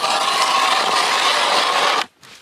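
An ice auger grinds steadily through ice in a loud, continuous rasping whir for about two seconds, then cuts off abruptly, leaving a faint hiss.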